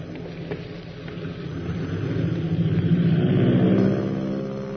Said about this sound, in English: In quick succession, the mother planes thunder down the runway, each pilot feeling a grave responsibility.